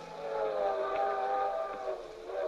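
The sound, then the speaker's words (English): A moving circus train, travelling from Tulsa to St. Louis at night, sounds its whistle in a steady, chord-like blast that holds for a couple of seconds, fairly loud, over a low rumbling of the train in motion. “We were on a circus train, the three of us in the trapeze act, going from Tulsa to St.”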